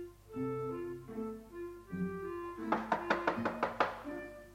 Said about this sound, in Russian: Одну минуточку, там стучат.